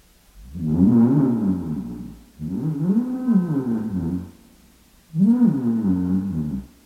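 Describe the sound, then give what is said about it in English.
A person imitates a lion's roar three times, each a loud, drawn-out growling vocal burst lasting about two seconds, separated by brief pauses. “And so you pretend you're a lion for a while.”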